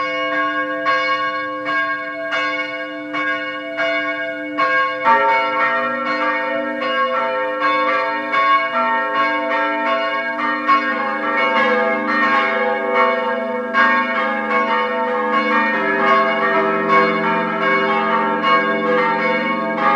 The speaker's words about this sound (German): Es ist 12 Uhr. Sie hören die Glocken der Pfarrkirche Oberzeiring in der Steiermark.